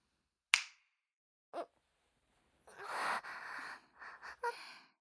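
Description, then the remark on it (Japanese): A single crisp finger snap rings out, followed by a short soft burst and then several breathy gasps and exhalations that rise and fall over the last seconds. “私が指を鳴らしたら始まりますよ。”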